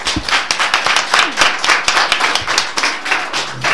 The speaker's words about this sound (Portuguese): Pois moitas gracias, despedirmos con un aplauso a estas mulleres.